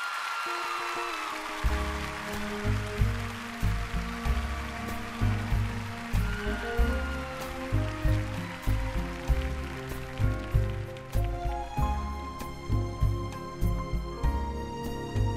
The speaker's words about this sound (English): Ladies and gentlemen, please, a huge round of applause for my friend and yours